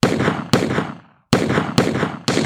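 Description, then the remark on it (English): Five loud, sharp gunshots, warning shots fired over a crowd by hired guards, ring out at uneven intervals, each crack trailing off in a short echoing decay, with a brief pause after the second shot. No voices are heard. “It was at this time when the 2nd round of gunfire with more serious intentions erupted as the hired protectors yelled out firing warning shots over the crowd.”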